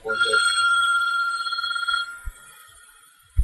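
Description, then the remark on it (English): A phone rings with a loud, warbling electronic trill, a call from a wife's work phone, lasting about two seconds and then cutting off, followed by a couple of soft thumps. “You have a phone on?”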